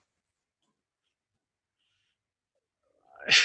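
Near silence gives way at the very end to a sudden loud, breathy yawn with a low voiced groan underneath, cut off as it swells.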